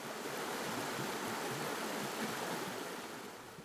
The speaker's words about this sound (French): Très ancien, ce pont a une architecture qui lui permet de résister aux crues régulières de notre petit ruisseau, débordant d'énergie.